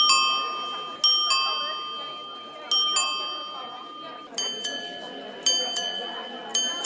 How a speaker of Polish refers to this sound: Dzwonek jak dzwon cerkiewny lub kościelny. Prawda? To jest właśnie ten charakterystyczny element, który nawiązuje też do tego, że na Podlasiu mamy własną kulturę, taką mieszankę religijną, więc starałem się też dobrać odpowiednie dźwięki